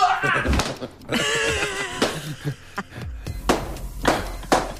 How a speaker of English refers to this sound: and we had to burst as many balloons as we possibly could using only parts of our body.